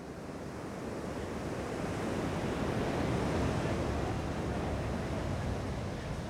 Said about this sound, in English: We walk down to the beach where the wall stretches into the ocean, and we're mesmerized by the way that the waves break awkwardly against the wall. The metal posts disfigure the waves, but they can't stop them from coming.